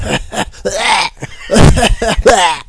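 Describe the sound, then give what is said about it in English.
A person vocally imitates a dog at a job site hacking and coughing until it gags: a rapid string of harsh, throaty coughs and retching bursts, loud, with no words spoken. “This dog was making the worst fucking noises. It was just like hacking and coughing, and it kept coughing until it gagged.”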